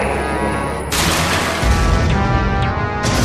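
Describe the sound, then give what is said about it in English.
Loud, continuous crashing and banging as drones smash into equipment, including a teleport system and a cyber psychology suite, with heavy booming thuds and harsh metallic clatter piling up through the whole stretch, no voices. “Those drones are really laying into that equipment.”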